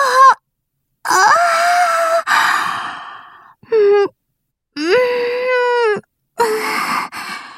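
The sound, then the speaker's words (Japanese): A woman yawns aloud several times in a row in a church confession room, each yawn a long voiced breath that swells in pitch and then sinks away, separated by brief pauses of silence. “困っている人がいないのはとてもいいことなんだけれど、あまりに暇で、その懺悔室で一人思わずあくびを漏らしてしまう私がいた。”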